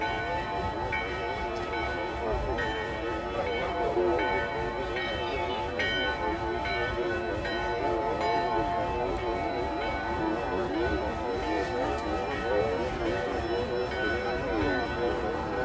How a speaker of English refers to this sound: A mountain top ringing out beyond the distance of bells, insistent flow and spate of campanile. Cantabile.